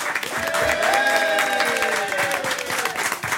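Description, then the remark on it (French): An audience claps steadily and loudly throughout for Sophie Dulac and Océan, a dense, even patter of many hands, with faint voices or cheers briefly rising above it before the applause tapers slightly at the end. “Applaudissez Sophie Dulac et Océan.”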